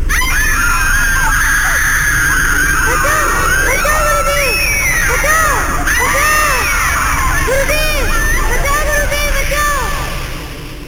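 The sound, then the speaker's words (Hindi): A crowd of disciples screaming and yelling in pain from burns as they flee after burning wood from a havan kund (sacred fire pit), blown by Hanuman, fell on them; many overlapping voices crying out continuously, loud and chaotic for the whole stretch before fading slightly at the end. “और हनुमान ने ऐसी फूंक मारी कि हवन कुंड की जलती लकड़ियां उड़कर शिष्यों पर जा गिरी और शिष्य जलन से चिल्लाते हुए भागे।”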